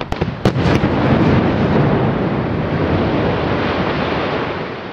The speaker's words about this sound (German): Pünktlich um 12.30 Uhr erfolgte heute die Sprengung im Felssturzgebiet von Gurtnellen.